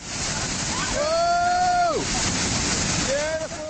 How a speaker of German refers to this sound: Das tosende Wasser der Moldau und mit stromschnellen kämpfende Wassersportler. Dieses beeindruckende Schauspiel können sowohl Sportfans als auch Adrenalin-Junkies von Donnerstag bis Sonntag im südböhmischen Oberlauf der Moldau erleben.